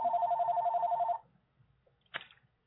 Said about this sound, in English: We got phones ringing in the office.